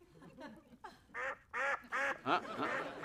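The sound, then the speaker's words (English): A duck quacks loudly, a rapid series of four or five nasal, honking quacks following some faint, scattered sounds at the start. “Can I push the thing down? Not until the duck quacks.”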